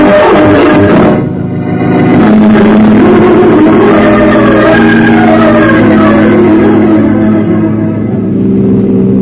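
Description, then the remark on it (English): A car engine revs loudly and pulls away, its steady drone climbing in pitch as it accelerates and then holding a strong, even roar. No one speaks. “Better drive a little faster”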